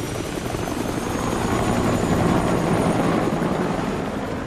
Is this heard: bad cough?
no